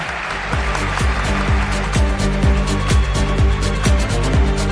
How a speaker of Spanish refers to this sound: Os pido un aplauso para ella.